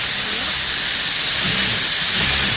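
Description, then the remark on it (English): A sewing machine runs steadily, stitching binding: a loud, continuous whirring hiss with a faint low rumble underneath, unbroken for the whole stretch and with no voices. “So you hear the sewing machine run, and it's actually stitching the binding as you go.”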